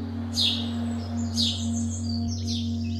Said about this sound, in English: For some city dwellers, lockdowns brought one small joy. In place of rumbling engines and rowdy pedestrians, they could hear the chirps and trills of wood pigeons, wrens, owls, and sparrows.